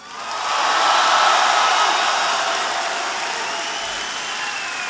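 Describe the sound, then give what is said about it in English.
A large crowd in Pensacola breaks into applause for a chief who led the pledge and sang the national anthem, swelling within the first half second into a dense, steady roar of clapping that holds loud and even to the end, with no talking over it. “I want everybody, first of all, to give a big round of applause”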